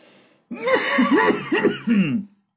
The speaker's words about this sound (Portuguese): Já que tá curtinho, eu vou tossir com gosto agora.